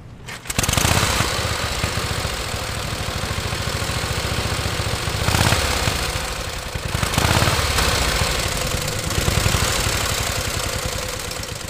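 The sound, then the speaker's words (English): A 1918 Harley-Davidson motorcycle engine, driven by Frenchman Christophe de Goulain on a trip around the United States, runs loud and steady with a rough, rapid chugging pulse that kicks in after a brief quiet start and continues throughout, with no voices. “Frenchman Christophe de Goulain is driving a 1918 Harley-Davidson motorcycle around the United States to commemorate the 100th anniversary of the end of World War I.”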